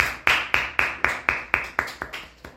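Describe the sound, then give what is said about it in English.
Steady hand clapping for a girl who has just told the Goldilocks story, about ten sharp claps in a quick, even rhythm, each one crisp and bright, with no voices over them. “Clap for her.”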